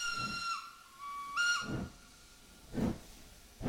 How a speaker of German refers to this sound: Ja, also wir sind ein Stück weit auf der Strecke der Bagdadbahn gefahren mit zwei Dampflokomotiven.